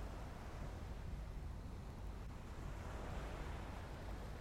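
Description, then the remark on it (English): Gentle sea waves wash softly against the shore in a steady, quiet hiss of water, with no distinct surges or crashes and no voices. “You stand for a moment, then you walk to the edge of the sea, where the waves tumble into foamy wavelets that lap the shore.”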